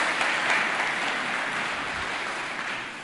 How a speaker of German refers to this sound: Vielen Dank. Das ist doch ein Applaus wert. So ein langer Text.